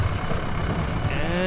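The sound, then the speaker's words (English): A truck engine runs roughly from ignition coils overdue for changing, its low, uneven rumble sputtering throughout, with a thin whine rising near the end. “Oh, I thought I could put off changing the ignition coils. From the sound of things, that might have been a mistake.”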